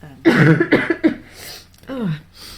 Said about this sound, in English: All right. And I think you held up, considering you've still got a bit of a cough,